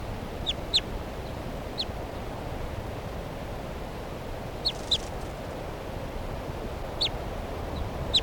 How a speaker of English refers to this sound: bird just got released by mistake, bird 387, who hasn't been banded yet. And she's giving some soft alternate type 2 flight calls here in the trees right next to the truck.